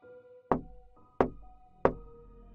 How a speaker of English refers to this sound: I was deep into the game when someone knocked on the door.